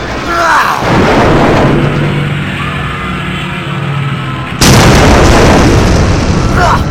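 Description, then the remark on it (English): A giant Sentinel robot crashes to the ground lifeless after Wolverine slashes the base of its neck, with a deep, rumbling boom and grinding metallic clatter, followed by a second, sharper heavy impact that bursts out loudly and keeps roaring. “Crashing to the ground lifeless”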